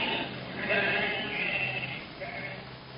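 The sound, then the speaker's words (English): Sheep bleat in a steady overlapping chorus, several animals calling at once with wavering, nasal cries over a low background rumble, fairly loud throughout. “Ace Hanlon makes dead mutton of my sheep.”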